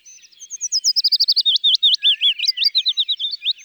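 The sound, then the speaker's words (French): A willow warbler sings a clear, sweet phrase of rapid whistled notes that gently slide and tumble downward, fairly loud, with no other sounds around it. “Et enfin, voici le pouillot fitis. Un petit oiseau difficile à voir dans les feuillages, mais qu'on reconnaît facilement à son chant.”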